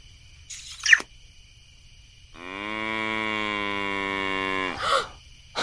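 A cow standing on its hind legs lets out one long, loud moo, a steady low drone lasting a couple of seconds, with a short squeaky noise just before it and no talking.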